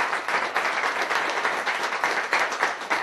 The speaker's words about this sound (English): so round of applause for you two. It's awesome.